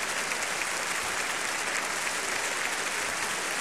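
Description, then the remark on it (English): Sustained applause from a large concert audience, the soloists and the members of the Chicago Symphony Orchestra applauding the chorus under Maestro Kubelik, a dense, steady wash of clapping with no break or voices. “The members of the Chicago Symphony still applauding.”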